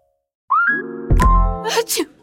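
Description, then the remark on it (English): A single loud sneeze: a rising, voiced wind-up breath followed by a sharp explosive burst and a breathy trailing exhale, heard on its own. “that sneeze means you do not want to venture out into all that pollen”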